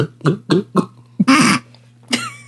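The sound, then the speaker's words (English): A person choking on a drink after making sound effects: a quick run of short, harsh coughs, then a longer sputtering burst and one more rough cough, loud. A low steady hum sits underneath. “Oh, don't try to make sound effects and then drink at the same time, because you'll choke.”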